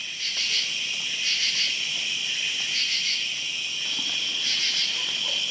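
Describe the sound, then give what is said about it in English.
A dense August evening chorus of crickets and katydids, high-pitched trilling and chirping repeating steadily in pulsing bursts, fairly loud and continuous with no voices. “And tonight we hear crickets and katydids, which seem to repeat over and over.”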